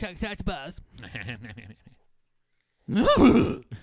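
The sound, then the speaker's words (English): A person's voice imitates a horse whinny, starting with a run of shivering, quavering vocal sounds, then a short pause, then a loud, wobbling neigh-like cry. “It's kind of a shiver and then a last minute make a horse sound.”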